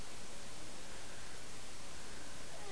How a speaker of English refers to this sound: Sure is windy out there today. Sure is windy. Sure is windy.